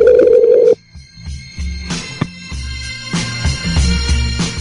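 A phone line ringback tone sounds once on an outgoing call to Key West, a steady electronic ring lasting under a second, followed by a connection and background line noise with faint clicks.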